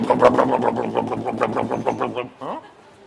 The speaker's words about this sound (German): Wird das so laut wie Opas alter Rasenmäher, schön mit Benzin, ohne Schalldämpfer, ohne Auspuff, so.